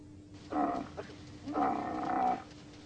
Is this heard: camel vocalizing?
yes